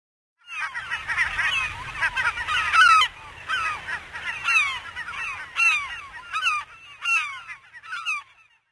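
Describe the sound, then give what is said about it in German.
Many penguin parents calling at once in a busy colony, calling for their chicks after bringing them food, a dense overlapping chorus of loud, harsh, honking brays with sharp repeated peaks, continuous throughout with no talking. “Und die Pinguineltern bringen ihren Kindern ihr Futter. Dann rufen sie nach ihnen, denn die Kleinen sehen sich alle zum Verwechseln ähnlich.”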